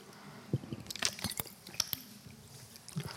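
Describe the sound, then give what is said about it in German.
Mouth noises from someone drinking water: a few sharp wet clicks and soft gulping sounds spread over a few seconds, with no talking. “Ich brauche schon ein bisschen Wasser.”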